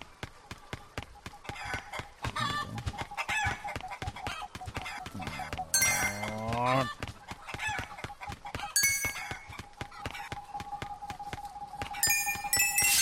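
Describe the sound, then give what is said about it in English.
A flock of chickens clucks and squawks almost nonstop, loudly, with sharp rising cries breaking through a busy patter of scurrying steps. “I like the clocks more just to get the chickens away from me.”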